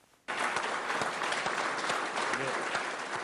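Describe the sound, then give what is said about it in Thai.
A burst of loud, dense applause from scientists at the Indian Space Research Organization in Bangalore begins abruptly and holds steady, many hands clapping with faint cheering, as India's spacecraft successfully entered Mars orbit on a Wednesday morning. “เสียงปรบมือและเสียงเชียร์ของนักวิทยาศาสตร์ที่ Indian Space Research Organization เมื่อเห็นยานอวกาศของอินเดียเข้าวงโคจรของดาวอังคารได้สำเร็จเมื่อเช้าวันพุธนะคะ”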